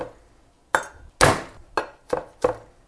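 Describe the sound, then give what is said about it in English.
Garlic being crushed with the flat of a knife: five sharp thuds on a cutting board, the second a heavier, longer crunching smash, the rest quick knocks at an uneven pace. “Whew, that's me mashing up the garlic with the side of my knife and just give it a few rough chops, each clove.”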